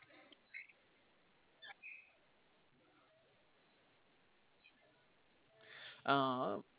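A few short, scattered chirps from small birds, then a louder burst of rapid, squeaky budgerigar chatter near the end, with quiet stretches in between.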